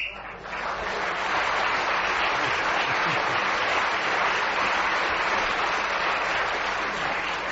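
whistle ending the round

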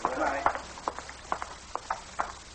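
horse hooves clip-clopping

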